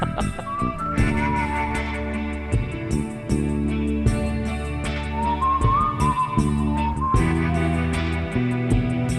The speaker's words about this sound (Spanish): Vamos a ponerlo, vamos. Mira, mira, mira. Ahí está. Ahora viene, viene. Ahí va. Se viene el silbido.